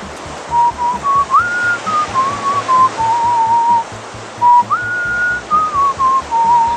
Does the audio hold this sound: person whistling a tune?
yes